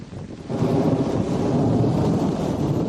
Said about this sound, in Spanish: La intensa lluvia y las tormentas están siendo las grandes protagonistas en este 2 de mayo, Día de la Comunidad de Madrid.